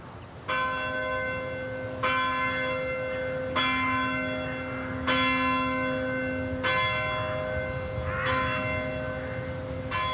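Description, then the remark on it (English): A church bell tolls the first bell at 4:10, calling people to the choir stalls, with about six resonant strikes roughly a second and a half apart, each ringing on and overlapping the next. No voices are heard. “First bell rings at 4:10.”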